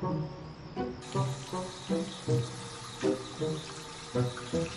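Water gushes steadily from a woman's sink faucet whose handle isn't working, a loud continuous splashing rush with regular surging pulses, with no voices.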